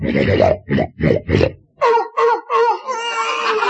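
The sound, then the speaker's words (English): A voice imitates a woman snoring: four quick, rhythmic, raspy snorts, followed by several wavering, nasal, whistling tones that trail into a drawn-out moan. “is downstairs eating and her nose is up here snoring.”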